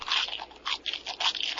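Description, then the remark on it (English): A grasshopper munches on plant leaves, making a quick series of crisp, dry crunching bites in an uneven rhythm, fairly quiet and with no voices. “A grasshopper eats the leaves of a plant.”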